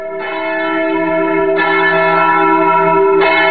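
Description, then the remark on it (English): Church bells at the Church of the Nativity in Bethlehem ring loudly in the evening, calling worshippers to mass during the Christmas season, with three evenly spaced strikes about a second and a half apart, each leaving a rich, humming tone that lingers into the next. No one speaks. “The sound of church bells reaching up to a sliver of a moon over Bethlehem, calling worshippers to an evening mass at the Church of the Nativity.”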